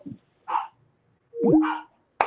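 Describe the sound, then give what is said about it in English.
A dog gives three short, sharp barks spaced apart, with a brief yelping tone in the middle one, reacting to a person saying hello as if it were someone at the front door. Moderately loud, with nobody talking. “My dog hears me saying hello and thinks it's the front door.”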